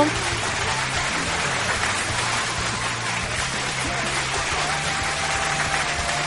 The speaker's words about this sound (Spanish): Así que le mandamos saludos y por supuesto aplauso.